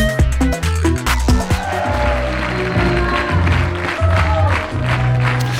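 A brief burst of upbeat music with punchy bass notes and a melody, mixed with a steady wash of crowd applause and clapping throughout, loud and continuous for about five seconds.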